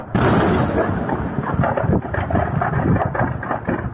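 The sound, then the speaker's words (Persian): A continuous, heavy rumbling roar with repeated booming bursts rising out of it, a chain of explosions at the ammunition depot of the Syrian army's 12th Division on the outskirts of Daraa province after an Israeli airstrike, going off in quick succession, with wind buffeting the microphone. “صدای انفجارهای پیاپی زاغه مهمات لشکر 12 ارتش سوریه در حومه استان درعا پس از حمله هوایی اسرائیل.”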